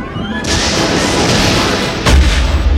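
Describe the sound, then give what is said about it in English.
Laser blasts from someone shooting at a ship crackle through a dense, continuous roar of noise: one sharp burst early on, then a second harder blast that lands with a heavy low boom near the end. “Wait a minute, those are laser blasts!”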